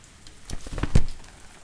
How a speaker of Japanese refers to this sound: 結構大きい傘だね。でも、しっかりとくっついてないと肩に雨が当たっちゃうね。